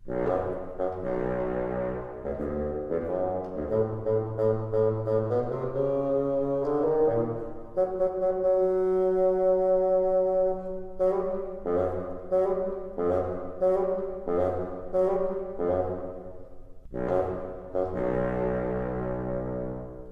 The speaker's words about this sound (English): Peter's grandfather is represented by the bassoon. Can you hear his stern voice?